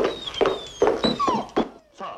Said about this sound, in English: It's a dog, sir. I'm glad we agree. Please silence it.